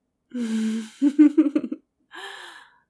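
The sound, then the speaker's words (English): A voice whimpers: one drawn-out, mid-pitched whine, then a quick run of short, shaky, catching whimpers, finishing with a soft breathy exhale. No words are spoken. “Go on, whimper for me.”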